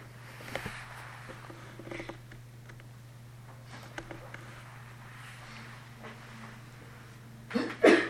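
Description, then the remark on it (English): A single sharp sneeze bursts out near the end after several seconds of near-silence, with only a steady low electrical hum and a few faint clicks beneath it. “Bless you.”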